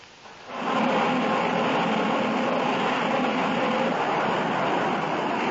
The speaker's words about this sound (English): A transoceanic airplane prepares to land on an East African airfield.